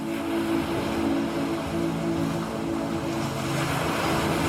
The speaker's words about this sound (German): Voller Gelassenheit kannst du dich nun immer tiefer in deine Vorstellungswelt sinken lassen und der Melodie des Meeres lauschen.